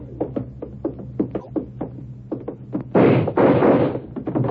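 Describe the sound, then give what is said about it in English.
A door by a stage is forced open: a rapid series of hard thumps and bangs against wood, then two loud, rough crashing bursts as it gives way, without speech. “Okay, Bragg, I got the door open.”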